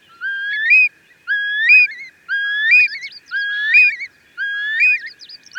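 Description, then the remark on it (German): A Eurasian curlew calls five times in a steady rhythm, each a clear rising, bubbling whistle ending in a trill, fairly loud with no voices over it. “Das klingt sehr schön in so weiten Wiesenflächen und zur Brutzeit, da wo es ihn noch gibt, dann wird es da auch noch ein bisschen lauter.”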